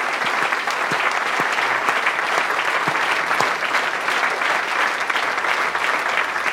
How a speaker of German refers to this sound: Erstmal nochmal danke an das Publikum hier im Schmidtchen. Ja. Ein ganz großartiges Publikum. Könnt ihr euch mal eben selber beklatschen. Das war richtig toll heute Abend hier.